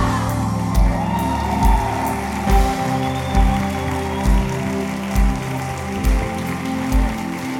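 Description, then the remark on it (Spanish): A large audience at a church service applauds the Lord loudly and continuously, with scattered shouts and whoops rising from the group and a steady rhythmic thumping pulsing underneath. “Vamos a darle un aplauso más fuerte al Señor.”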